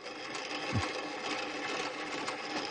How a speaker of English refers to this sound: Here, listen to the spinning sound of the old Edison cylinders that first recorded the sound of the human voice.